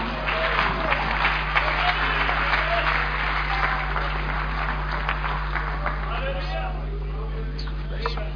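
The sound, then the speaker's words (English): Sustained applause from a large church audience after a sermon, a dense steady patter of many hands clapping with crowd murmur, holding loud and even throughout before easing slightly near the end. “Let's give another round of applause again.”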